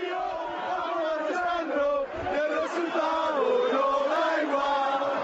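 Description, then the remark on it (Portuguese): A rowdy group of about 3,000 young people, sheltering from heavy rain in a covered area near Cartuja and drinking a lot of alcohol, shouts and yells over one another, loud and continuous for several seconds, with no clear words emerging from the overlapping cries. “Gritos incoherentes.”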